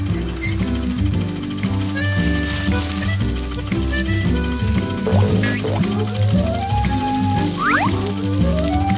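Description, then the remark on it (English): A steady stream of water is poured onto a tree, pouring and splashing continuously for several seconds, with a hissing, sizzling texture, under light background music. “Here's some water for Mr. Tree.”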